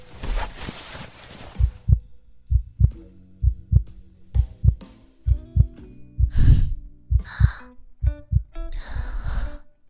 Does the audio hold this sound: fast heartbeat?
yes